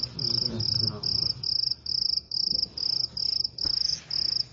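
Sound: cricket chirping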